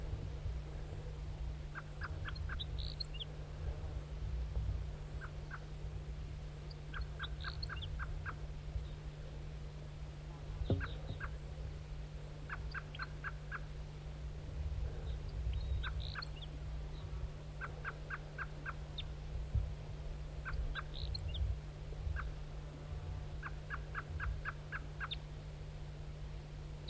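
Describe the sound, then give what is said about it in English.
Wild turkeys gobble again and again in rapid, rattling bursts, answering one another every couple of seconds over a steady low droning hum that runs throughout. “Decoys in back responding.”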